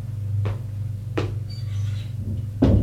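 A door opens as a visitor enters, with three short clunks spread across a few seconds, the last the loudest, over a steady low hum with faint higher scraping in between. No one speaks.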